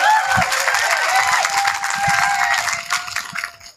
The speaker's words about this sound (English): can we give an absolute massive round of applause and say thank you very much?